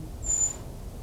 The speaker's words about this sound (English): This is a brown creeper. It's now 1 o'clock, 2nd November, making a high whistle-like sound. It's the creeper again. Can't see the bird.